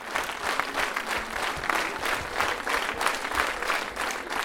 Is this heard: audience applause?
yes